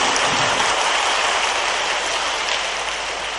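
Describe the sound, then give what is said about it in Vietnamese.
A hall audience breaks into sustained, enthusiastic applause, a dense wash of clapping that stays loud and steady throughout without any voices, at a Vietnam Buddhist Sangha gathering after the host introduces a senior Sangha official and asks the whole hall for warm applause. “Xin toàn thể hội trường cho một tràng pháo tay thật nồng nhiệt.”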